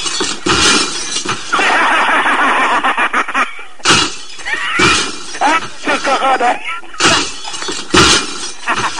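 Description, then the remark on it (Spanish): Someone deliberately smashes the four remaining glass window panes in several loud crashes at irregular intervals, each ending in a bright shattering spray, with voices talking and exclaiming between the breaks. “Pues es lo que le digo, mire, como quedan 4 cristales, esto me lo voy a romper yo, ya ves.”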